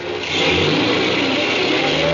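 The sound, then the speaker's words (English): A taxi cab's engine revs up loudly and pulls away, a steady rough roar that swells in the first moment and then holds strong for about two seconds, with no voices. “I could hear the cops running down the stairs as I ran out through the door and jumped into a cab and got out of there.”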